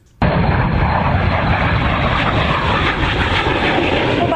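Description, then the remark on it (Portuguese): A loud, steady roar of military aircraft engines bursts in abruptly and holds at full intensity, a dense rumbling drone overhead with no voices: a fighter jet, a C-130 Hercules and H-36 helicopters of the Brazilian Air Force in an operational exercise over Campo Grande, Mato Grosso do Sul, Brazil. “Do avião caça, do imponente C-130 Hércules e dos helicópteros H-36. É facilmente percebido no horizonte de Campo Grande, a capital de Mato Grosso do Sul.”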